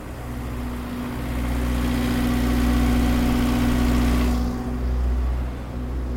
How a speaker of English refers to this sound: Can you hear that? That's two buses parked side by side. That's two generators going, and that's what you hear all day long. Because once the bus stops and you park, you obviously have to have electricity. Things got to run for the day.